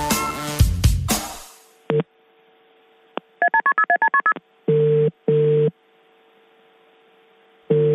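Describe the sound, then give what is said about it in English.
A rustle, then a quick run of keypad dialing beeps, followed by an overseas telephone ringback tone in short paired bursts, a brief pause, and the next ring beginning, clear over a faint hum, on a call placed to Brendan Favola. “That's an overseas ringtone.”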